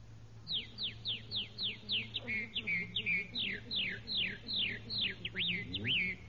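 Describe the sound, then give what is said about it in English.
A voice imitates a red-winged blackbird call: a quick, steady string of high, sliding whistled chirps, clear, running for about six seconds over a faint low hum. “Red-winged blackbird.”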